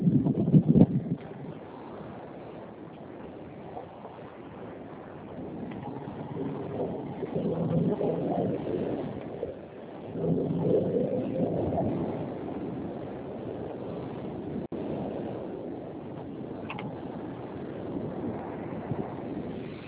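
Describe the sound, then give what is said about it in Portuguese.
A continuous rumbling motorcycle engine, recorded by the rider with a phone in the lap while riding, mixed with heavy wind buffeting against the microphone, steady and fairly loud for the whole stretch, with no one speaking. “Tô com o telefone no colo aqui da moto, tô dirigindo aqui, peraí.”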